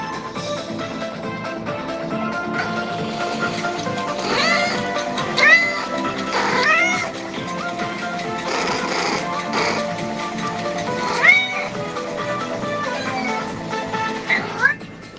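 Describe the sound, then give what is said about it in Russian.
A cat meows softly several times, short gentle mews spaced a few seconds apart over a steady, sustained musical background, with no one talking. “потому что приходит счастье и царапает коготками, и мяукает нежно «здрасте», и суется в ладонь усами.”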